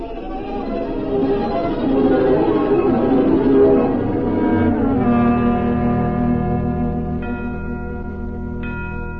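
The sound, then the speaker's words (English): Bells ring with bright, sustained tones that layer and hang in the air, fresh strikes chiming in near the end over a steady, fairly loud wash of ringing. “what are those bells?”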